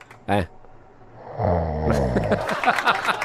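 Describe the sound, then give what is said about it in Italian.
After a short vocal burst, someone imitates snoring with one drawn-out, rasping, guttural breath, and then talking begins right after it. “Ma russa proprio. Non è che dorme russa.”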